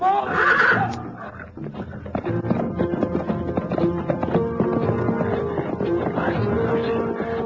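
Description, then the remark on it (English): A horse whinnies loudly and shrilly at the start, a frantic, high-pitched cry as a lion attacks it, then dense, continuous commotion carries on with further agitated horse sounds underneath. “The lion's too close. He's on the horse.”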